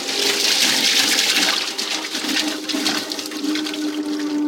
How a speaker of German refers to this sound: Je länger man jetzt diesen Holländer laufen lässt, umso feiner werden die Papierfasern gemahlen und verändern so die Charakteristik von Papier.